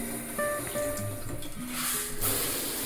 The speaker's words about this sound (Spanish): Voy a meterme en la ducha.